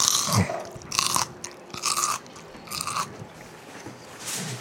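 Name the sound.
crunchy food being chewed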